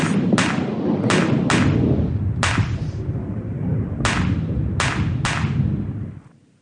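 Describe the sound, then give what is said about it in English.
A stage thunder-and-lightning effect, demonstrated as a theatrical magic effect: a steady low rumble punctuated by about seven sharp, bright cracks at irregular intervals, loud throughout and then quickly dying away at the end. No one speaks. “First, thunder and lightning together.”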